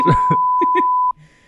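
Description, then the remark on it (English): A steady, loud censor bleep runs for about a second, covering a voice saying a promo code underneath, then cuts off abruptly, leaving quiet background murmur. “That'll make it seem more cool and exclusive if we bleep it out.”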